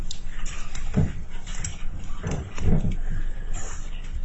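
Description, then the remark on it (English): Someone chews ice: a handful of irregular crunching bursts over a soft background murmur, with no speech. “I'm sorry, I'm chewing on ice over here.”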